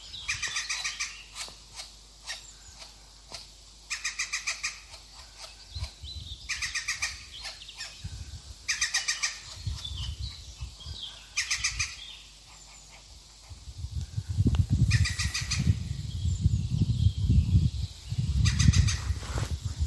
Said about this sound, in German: Gruß vom grünen Vogel. Hier sein Ruf. Kennt ihr ihn? Picus viridis.